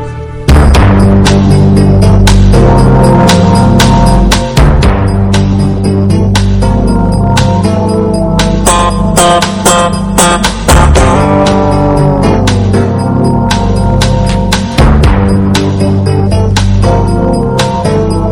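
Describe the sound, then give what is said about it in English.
The loud, full instrumental theme music of the TV crime drama Law and Order plays continuously, with sustained tonal chords and sharp rhythmic accents punctuating it, and no voices over the music. “Of course, that's the theme music to Law and Order.”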